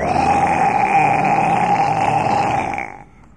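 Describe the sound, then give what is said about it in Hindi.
A lion's roar as it chases a deer that has just leapt across a river: one long, loud, rough growl held steady for about three seconds before it quickly fades away. No one speaks. “As it was just over river, the lion began to roar.”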